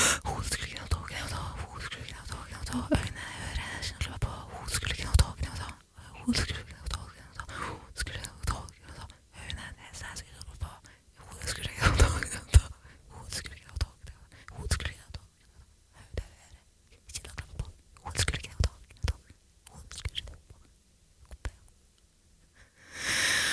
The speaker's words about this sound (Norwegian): Tror du jeg klarer å synge hele sangen på ett pust? På innpust?